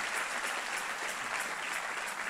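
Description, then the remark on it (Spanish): An audience applauds the Lord during a sermon in a dense, steady wash of clapping that stays evenly loud for a couple of seconds, with no voices standing out. “Si ese es el aplauso, dáselo más fuerte al Señor.”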